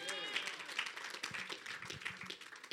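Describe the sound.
A church audience breaks into steady applause for the Lord Jesus, many hands clapping in a dense, fast patter that holds through the whole stretch, with a few voices calling out underneath.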